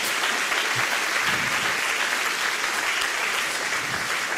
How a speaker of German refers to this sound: Ja, kann man auch ruhig mal klatschen.